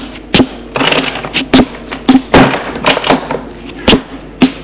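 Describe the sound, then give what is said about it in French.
A woman handles and shuts a door at a home in the evening, with a series of sharp wooden thuds and knocks spaced unevenly over a few seconds, plus rustling and creaking in between, fairly loud. “Elle ferme la porte.”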